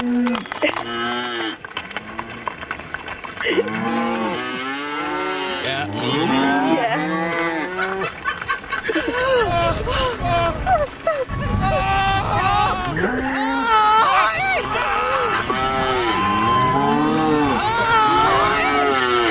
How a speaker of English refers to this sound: When you say resembling a cow, what do you mean? What, the noise? Yeah, the noise. Right, like she was mooing? Yeah.